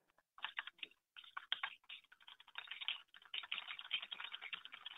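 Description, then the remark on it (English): Rapid typing on a computer keyboard by a person chatting with a customer at work, crisp, with dense clattering keystrokes in bursts that grow busier and more continuous toward the end. No voices. “This is me typing to a customer at work.”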